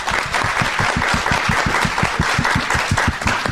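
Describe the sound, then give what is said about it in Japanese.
A crowd applauds steadily and loudly for several seconds, a dense wash of many hands clapping at once, with a faint regular thumping pulse running underneath, as the audience at an IR seminar held in Tokyo on December 8 welcomes a speaker from Yume Shin Holdings. “どうぞ大きな拍手でお迎えください。”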